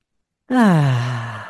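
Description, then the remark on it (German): A single deep, audible exhale after a brief silence, taken during a breathing exercise with the hands held in a heart shape in front of the heart, voiced like a long sigh that starts higher and sinks lower as it fades. Fairly loud, with no talking. “Ich werde die Hände wie so eine Herzform machen, diese Formation der Hände vor unser Herz legen, gut einatmen und ausatmen.”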